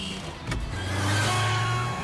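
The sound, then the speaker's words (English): An open convertible car's engine hums low and steady as it drives off, with a brief thump near the start and a rising whir of road noise, moderately loud. “She drops off into an open convertible car and drives off after TikTok.”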